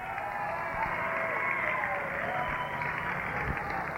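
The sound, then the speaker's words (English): A steady wash of audience applause welcomes a finalist brought up in the final round of a soundalike contest. It is dense and continuous with a muffled, band-limited tone, holding at an even loudness with no clear individual claps standing out. “And let's bring him in a little round of applause now”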